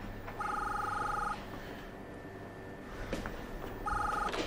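A telephone rings twice in long, buzzing bursts of a warbling electronic tone, separated by a few seconds of quiet background hiss.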